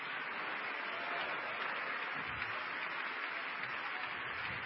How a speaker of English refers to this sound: Would you put your Bibles down, clap your hands, and shout, God bless the word.